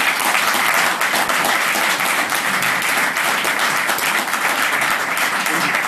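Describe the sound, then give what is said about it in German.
A live audience bursts into sustained applause in answer to being asked who once had these fears, with dense overlapping clapping continuing steadily and loudly for several seconds without a break. “Mal mit Applaus, wer hat diese Ängste damals gehabt?”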